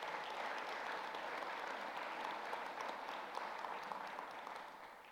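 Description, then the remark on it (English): A large church audience bursts into sustained applause, a dense wash of many hands clapping at once that stays steady and loud for several seconds before easing slightly at the end. “I think you should applaud God for that.”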